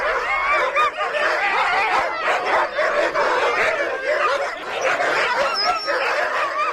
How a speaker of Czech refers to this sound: Jenže ve spřežení bylo místo jen pro 6 psů, takže jsme byli svědky obrovského psího koncertu. Vypadalo to, že psi soutěží v tom, kdo bude štěkat nejhlasitěji, protože jen ten má největší šanci, že bude vybraný do spřežení.